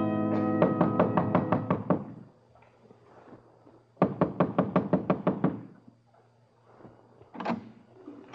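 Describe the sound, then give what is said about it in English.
Two bursts of rapid, firm knocking on a door, each about a dozen quick raps, separated by a pause, followed by a single softer thud near the end. “Only certain kinds of people knock like that.”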